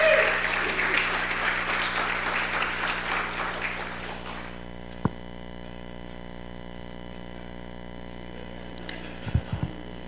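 An audience claps in a dense burst of applause for about four seconds, then it fades out, leaving a steady low electrical hum with a couple of brief thumps near the end.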